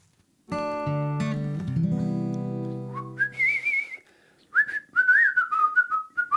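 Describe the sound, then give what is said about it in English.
Someone whistles a short, bouncy tune of quick rising and falling notes, clear. A sustained musical chord plays just before the whistling begins, and no one speaks. “Oh, wow, your whistling's improving”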